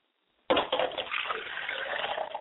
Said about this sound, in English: I don't know if I said I shave for pouring a glass of water for my father's spirit. If I didn't, I'd like to say so now. I pour a glass of water for my father, I shave.